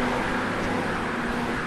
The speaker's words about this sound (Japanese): ありがたいことに車が渋滞してるんだよね。